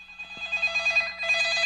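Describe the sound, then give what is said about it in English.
A teacher's mobile phone rings during his talk. The ringtone plays on its own, a bright electronic melody warbling steadily for a couple of seconds at moderate volume, with no talking over it. “It's not good when the teacher doesn't remember to turn his phone off.”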